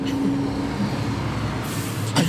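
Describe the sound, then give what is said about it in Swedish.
A bus rumbles past with a steady low engine drone, a brief hiss of air near the end, and no voices heard. “Jag tycker det verkar härligt att åka med den bussen.”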